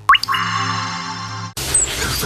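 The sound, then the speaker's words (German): A sustained electronic tone with a rising chirp at the start cuts off, giving way to a steady hiss of water spraying from a cold morning shower. No one speaks. “Ich dusche morgens kalt.”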